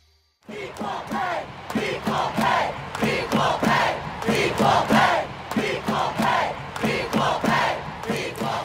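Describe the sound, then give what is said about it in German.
A large stadium crowd at the final of the Women's Football World Cup chants "Equal Pay" over and over, loud and steady, with sharp rhythmic accents punctuating each repetition after a brief silent start. “Equal Pay, also gleiche Bezahlung, das haben ZuschauerInnen von der Tribüne gerufen beim Finale der Fußballweltmeisterschaft.”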